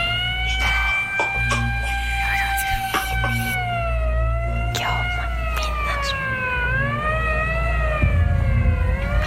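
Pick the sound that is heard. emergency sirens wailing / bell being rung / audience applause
emergency sirens wailing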